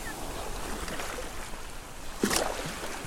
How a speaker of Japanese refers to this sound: 座間味島にやってきまして、海のこの波の音聞いてください。